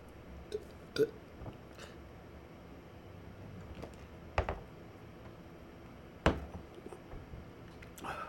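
Someone gulping down a glass of milk: a few wet, throaty swallows spaced a couple of seconds apart, with faint mouth noises between them and no talking.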